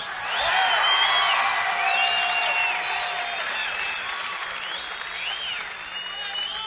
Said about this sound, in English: Would you give a really warm round of applause to Mr. …?